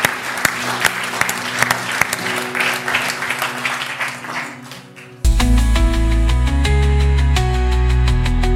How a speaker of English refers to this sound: Let's give the Lord a round of applause.